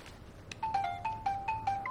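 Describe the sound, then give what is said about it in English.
A mobile phone rings with a bright electronic ringtone, a quick run of repeating melodic beeps at moderate volume over a faint low hum, with no one speaking, as a woman takes out her phone and checks it. “Maggie takes out her phone and checks it.”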